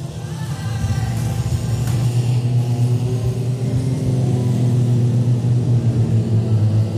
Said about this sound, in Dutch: De auto's die trekken zwaar.